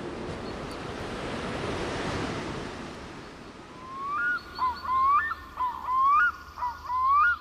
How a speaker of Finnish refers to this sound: Ja sitten tulee sivusta tommonen pienempi vesiputous myöskin. Siirrytään vähän kauemmas juttelee, koska tää meteli on aikamoinen.